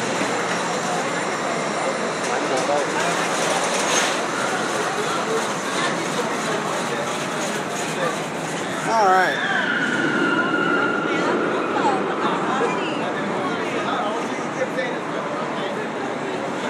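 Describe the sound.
Busy ambience inside the Adventure Dome indoor amusement park at Circus Circus: a steady, loud wash of crowd chatter and ride machinery, with a siren-like tone sliding up and down midway and a voice briefly speaking.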